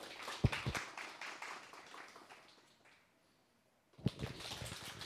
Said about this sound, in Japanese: どうぞ拍手でお迎えください。